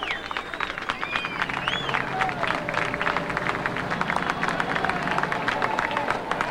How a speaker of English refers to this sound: Here she comes. There's clapping.